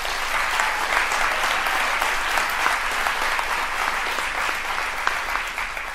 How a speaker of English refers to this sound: Please help me give them a round of applause.